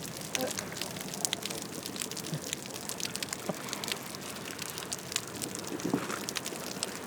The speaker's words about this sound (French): J'ai l'impression d'entendre la bouée. Parce que elle nage près de la bouée jaune et c'est comme si de l'eau tapait sur une bouée.